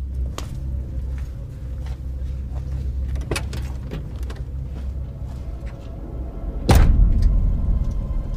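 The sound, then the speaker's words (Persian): A man locks a door and heads toward a car: a few sharp metallic clicks and rattles over a steady low engine-like rumble, then a heavier thud near the end. “در رو قفل میکنه و سمت ماشین میره.”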